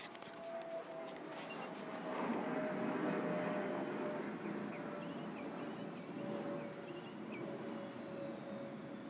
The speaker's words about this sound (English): First, let's hear the airplane.